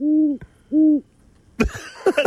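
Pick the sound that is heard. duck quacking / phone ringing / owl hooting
owl hooting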